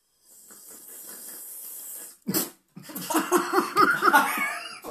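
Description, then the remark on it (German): A person slurps a drink with a steady, hissing suck for a couple of seconds, then chokes on it in a sudden sputtering burst, followed by a stretch of lively laughter. “Ich trinke mal kurz was. Ihr hört hier ein paar Schlürfgeräusche so.”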